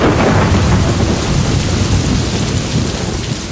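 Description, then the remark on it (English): A heavy monsoon thunderstorm with torrential rain pouring down, a dense, steady roar of water and deep rumbling thunder, loud throughout with no voices. “And when the monsoon arrives, the clouds burst. It's called the burst of the monsoon.”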